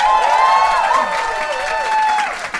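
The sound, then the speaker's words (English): An audience applauds steadily for a couple of seconds, with wavering whoops and cheers rising above the clapping. “Give me a round of applause if you have heard our podcast before.”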